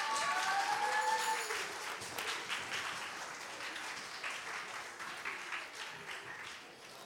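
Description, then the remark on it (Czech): An audience applauds steadily as a band comes on, dense rapid clapping filling the whole stretch, with a few brief whistle-like tones rising near the start before the applause gradually softens. “Tak už jim můžete zatleskat a přichází ….”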